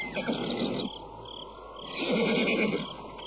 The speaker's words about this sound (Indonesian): Nah, dengar Kakang Persepati. Ada ringkikan kuda.